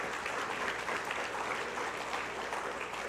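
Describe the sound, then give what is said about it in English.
Steady, dense applause from a crowd applauding the Lord, many hands clapping together in a continuous rustling wash at an even loudness for the full three seconds, with no voices standing out. “All right, let's give our Lord our applause.”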